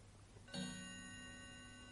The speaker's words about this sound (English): The clock is slowing down.